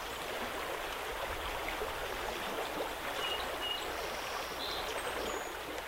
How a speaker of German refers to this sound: Oder sehen Sie vielleicht die hohen Berge, hören das Plätschern eines Flusses, genießen Sie die Natur?